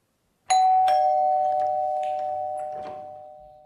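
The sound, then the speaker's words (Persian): In a film scene, a doorbell rings at the door of a small home as a father arrives: two quick chimes, then a bright, steady tone that hangs and slowly fades over about three seconds. Nothing else is heard, and no one speaks. “وقتی پدر در میزنه و میاد تو، پدر و سمیه رو در لانگ شات داریم.”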